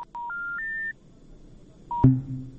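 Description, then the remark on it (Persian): Electronic telephone tones sound as a listener's call-in to a Radio Azadi program cuts off: a quick run of steady beeps stepping upward in pitch, a pause, then one more beep and a louder low buzzing tone. “تماس تلفنی شنونده ما قطع شد.”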